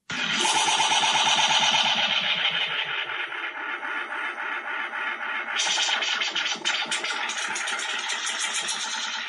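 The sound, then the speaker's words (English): A dense, buzzing analog tape echo effect, its repeating delays piling up into a distorted, engine-like drone. Its pitch and repeat rate shift as the tape playback head is moved left and right. The sound is loud and continuous, with no talking. “the person has control over the playback head, and they can move it left and right, changing like the frequency of the repeating noise”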